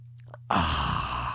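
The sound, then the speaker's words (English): A radio host on air takes a soft, brief sip of soda over a low background hum, then a sudden loud, breathy exhale that lingers for about a second. “Normally you would not take a sip of soda on the air, but let me do this here momentarily here.”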